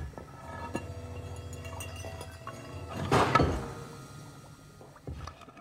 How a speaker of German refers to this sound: Lass uns mal die Geräusche herausfiltern, die wir da hören. Also Steine. Steine. Und am Ende auch so ein Blubbern.